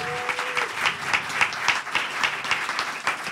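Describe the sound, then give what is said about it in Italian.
A crowd applauds steadily, with dense overlapping claps filling the whole stretch at a lively level and no one speaking over it. “applauso.”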